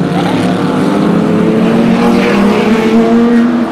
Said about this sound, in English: Pace car is coming off. Yeah, we're going to watch in, the start of GT America here. You're listening to it. Look at them get so close.